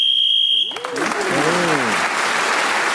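A steady, high-pitched game show buzzer sounds for just over half a second to end a round, then cuts off as loud applause and excited cheering voices take over and continue.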